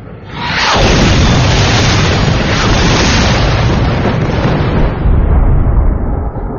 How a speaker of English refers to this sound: PT-99 was struck in the Firebird pod, the resulting detonation seeming to shatter the world.